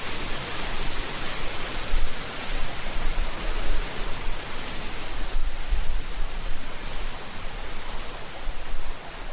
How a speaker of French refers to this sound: La cascade.